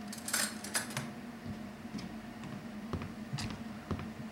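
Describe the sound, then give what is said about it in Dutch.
A teaspoon and other cutlery clink against each other in a few quick metallic taps, with a low steady hum underneath and no talking. “Waar is mijn lepeltje?”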